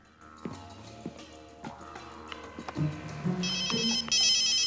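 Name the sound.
telephone ringing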